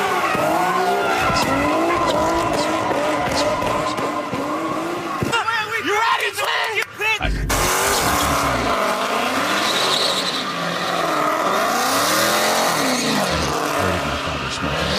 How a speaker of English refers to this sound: All right, so tell me if it's too loud. If you listen carefully between all of the roaring of the engine, you can hear just right underneath. Sound like a Dracula.